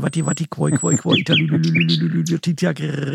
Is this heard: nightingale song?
yes